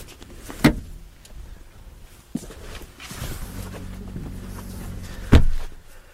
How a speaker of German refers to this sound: Dann schauen wir gleich mal, wie sich die Tür anhört. Also das Türgeräusch ist sehr okay. Ganz und gar nicht billig.